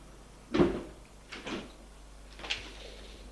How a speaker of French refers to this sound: Il prend l'ascenseur.